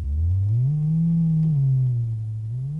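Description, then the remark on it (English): A steady, droning radio signal hum from an orbiting Explorer satellite, picked up on a shortwave set. It is loud, with a low buzzing tone that slowly rises and dips in pitch over a few seconds, heard alone without any voices. “That's her voice, that hum.”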